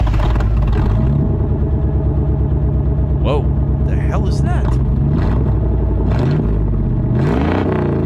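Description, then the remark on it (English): A loud, throaty V8 engine with glass pack mufflers rumbles and revs with a deep, burbling exhaust note, rising and falling over several seconds while people speak briefly over it. “That's a V8. With, like, glass packs or something on it.”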